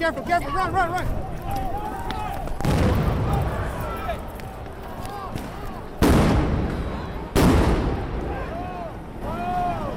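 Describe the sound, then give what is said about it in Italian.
Three loud stun grenades thrown by riot police burst one after another at the K Street and 13th Street intersection, each a sharp bang with a ringing tail, over a steady noise of shouting voices from a crowd. “Ma dobbiamo interrompere l'intervista perché gli agenti in tenuta antisommossa ne lanciano altre.”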